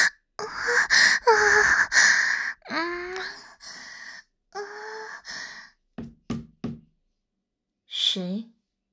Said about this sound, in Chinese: 谁呀？谁在敲门？